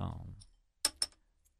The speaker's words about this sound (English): Yeah, yes, we're trying to get the bottles open. Pass a glass.